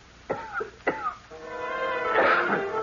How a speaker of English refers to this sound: I had just taken out my notebook and pencil to jot down an idea when somebody on the cot next to mine began coughing, and I turned my head.